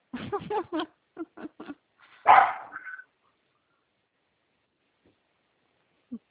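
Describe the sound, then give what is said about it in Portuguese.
A dog barks agitatedly in a quick burst of sharp, repeated barks, then lets out one louder, drawn-out bark before falling quiet, with a single faint bark near the end. “E o cachorro tá agitado aí, né? Cala a boca, cachorro.”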